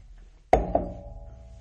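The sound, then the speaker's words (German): A glass is set down on a table, making two quick knocks in succession, the second lighter, followed by a brief fading ring. No one speaks. “Ja, ist, wenn du das Glas abstellst, dann sind die, ja? Die Einschläge hier ich auf jeden aufpassen.”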